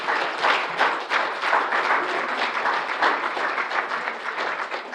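Sustained audience applause for the child actors on stage after a Christmas production, a dense steady wash of many hands clapping at once with slight swells in loudness and no voices.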